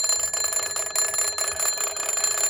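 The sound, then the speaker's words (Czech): An old bakelite military crank field telephone at the other end of a museum exhibit rings with a loud, continuous metallic bell rattle, the rapid clatter holding steady for a few seconds with no voices over it. “Ten na druhé konci expozice již zvoní.”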